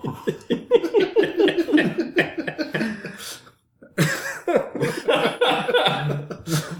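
A person chokes and coughs on brown bread he has been eating quickly, in a rapid run of harsh, strained bursts and gasping gags, breaks off briefly, then sputters on again just as loudly. No one speaks.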